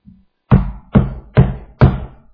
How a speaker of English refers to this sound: Christ is knocking. Behold, I stand at the door and knock.